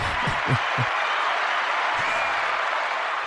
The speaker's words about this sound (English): A Biblical Perspective podcast family, help me give a round, warm of welcome and applause to my guest, my friend,